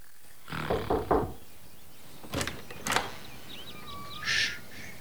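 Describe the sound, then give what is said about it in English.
Parents knock twice firmly on a door, about half a second apart, after a brief creaking groan. Faint chirping whistles and a short hiss follow. No one speaks. “Some of the parents are at the door.”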